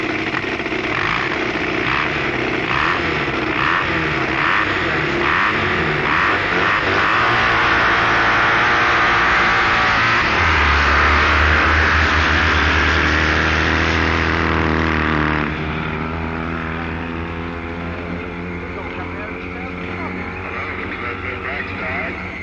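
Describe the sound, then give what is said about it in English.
A loud, ultra-low-built drag motorcycle with a supercharged BSA engine roars during an elimination run down the drag strip, revving hard in rising bursts before settling into a deep, steady drone that eases off slightly toward the end. “Jeff Garside's ultra-low-built machine with blown BSA power unit”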